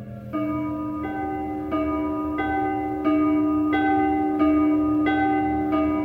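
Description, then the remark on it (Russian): A bronze church bell, struck by a bell-ringer in the belfry, tolls steadily, about nine strikes at an even pace, each ringing out and overlapping the last. Loud, with no voices. “На колокольню уж лезет звонарь. В колокол бронзовый громче ударь.”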